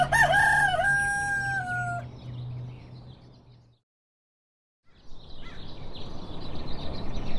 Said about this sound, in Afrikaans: Hoor daar, Betta se ou haan stem saam met jou.